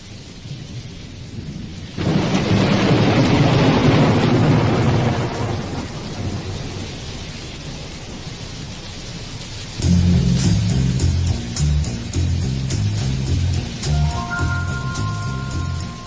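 Steady rain hisses as a loud, rolling thunderclap swells and slowly fades, then a mellow bass line and electric keyboard notes begin playing over the continuing rain, with no one speaking.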